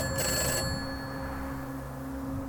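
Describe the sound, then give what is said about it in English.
A telephone at the side of a dusty road rings once with a short, bright, loud trill, then its tone lingers and fades into a steady hum. No one speaks. “Just answer the phone.”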